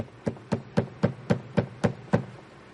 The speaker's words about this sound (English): Next morning, there was a terrible knocking on the door.